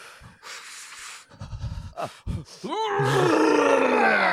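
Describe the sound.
A voice imitates vomiting: a few rough, breathy heaves and gasps, then a loud, strained retching groan that rises in pitch and holds, gurgling, to the end.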